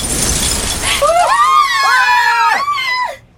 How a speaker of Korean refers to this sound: 악마의 목소리에 답하는 거대한 샹들리에가 슬슬 미끄러져 내려오고 있었다. 샹들리에는 천장 꼭대기에서 객석 한가운데로 와장창 소리를 내며 떨어져 내렸다.